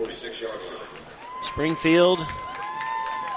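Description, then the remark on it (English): A stadium crowd at a football game applauds and cheers the Springfield defense after a turnover on downs, a steady wash of noise, with a man's voice talking over it partway through. “Springfield defense getting a well-deserved hand here from the crowd below us as they hold for another four and out this time, turnover on downs.”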